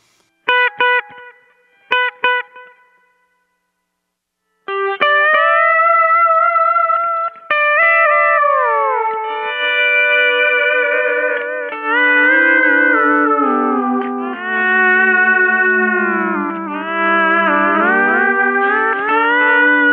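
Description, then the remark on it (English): Electric guitar through a delay pedal with the sustain knob rolled back to about 9 o'clock, giving approximately one delay return: short plucked notes each followed by one quieter echo repeat, then a longer stretch of sustained, bending melodic playing with the delay trailing behind. “I've rolled back the sustain knob to about 9 o'clock now, or a little bit below, so that it'll just yield approximately one return in the delay. And you can hear the speed that I have the delay set at as well.”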